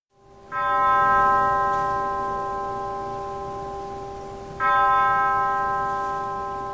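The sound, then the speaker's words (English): A deep church bell tolls twice, slow strikes about four seconds apart, each ringing out with a long, shimmering resonance that lingers and fades; no voices. The bells toll at the start of Congressman John Lewis's funeral at Ebenezer Baptist Church in Atlanta. “Bells tolled at the start of Congressman John Lewis's funeral today at Ebenezer Baptist Church in Atlanta.”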